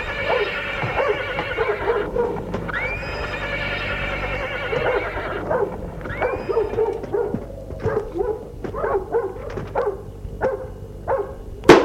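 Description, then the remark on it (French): At a castle, a horse whinnies with long, wavering neighs while hooves shuffle as a rider dismounts, then a dog runs up to her and barks in sharp, repeated bursts, growing louder toward the end. “Elle descend de cheval. Un chien accourt à elle et aboie.”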